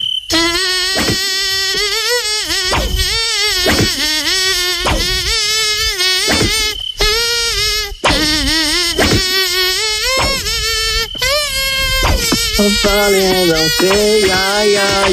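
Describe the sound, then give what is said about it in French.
A high, nasal, whining buzz like a mosquito, almost certainly a voice imitating one, in a studio, wavers up and down in pitch as if humming a tune, loud, continuous for about fifteen seconds. “on en a un, nous, dans le studio. Le moustique Nostalgie est plutôt gentil, lui.”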